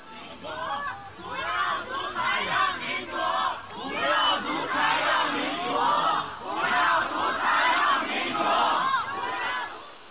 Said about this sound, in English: Here's just 10 seconds, roughly, of some of the protests that erupted in China.